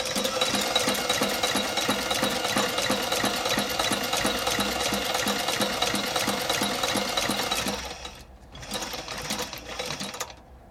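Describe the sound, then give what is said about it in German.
A sewing machine in a repair shop runs steadily at a fast, even stitching rhythm for about eight seconds, then stops briefly before a shorter burst of stitching resumes. Fairly loud, with no talking. “Schuhausputzmaschinen, Schlüsselmaschinen, die Gravurmaschine, die Nähmaschine.”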